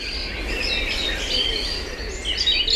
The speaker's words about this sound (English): Have you noticed the birds singing lately? Every morning, nature's choir welcomes the day.